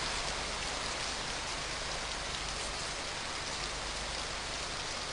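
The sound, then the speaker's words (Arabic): Steady rain pours down in a dense, continuous hiss with soft patter, even throughout, with no voices or other sounds; the rain falls from clouds formed over a very large lake. “الغيوم تتحول إلى مطر بقدرة الله، والشلالات تعيد المياه إلى البحيرة.”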